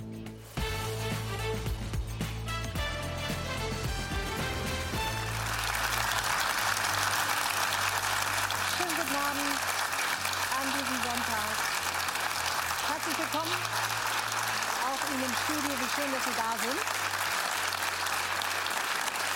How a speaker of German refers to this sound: Der Applaus ist Ihrer.